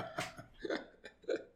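Three short bursts of beer bottles being opened, each a quick pop with a hissy fizz, spaced about half a second apart, moderately loud, with no talking.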